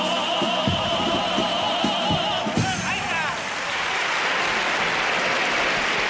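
A pasodoble song ends on a held sung note, then an audience bursts into loud, sustained applause, a dense wash of many hands clapping that continues steadily to the end.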